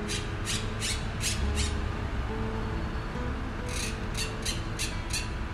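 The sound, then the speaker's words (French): A horde of green parakeets squawk in two quick bursts of shrill, harsh calls, five or six in a row each time, over a steady low background rumble. “Et donc du coup, on entend des hordes de perruches vertes qui ont un bruit assez significatif qui fait « i, i, i », on va dire.”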